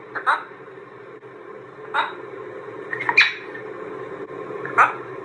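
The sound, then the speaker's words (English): A macaw imitates human speech, croaking out the same short word four times with pauses between, in a clip from Parrot Wizard. Each utterance is raspy, nasal and fairly high-pitched over a low steady background hum. “Here's a macaw talking.”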